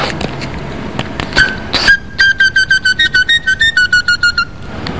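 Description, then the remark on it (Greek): A bright, reedy whistle imitates birdsong: a couple of short chirps, then a fast, even run of about fourteen warbling pulses at a steady high pitch, loud and with no talking. “Αυτά εδώ και κάνουμε τα πουλάκια.”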